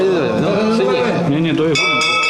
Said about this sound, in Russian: Это колокольчик.